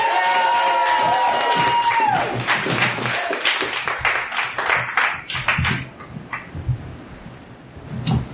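audience cheering and applauding

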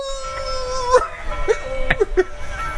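wolves howling

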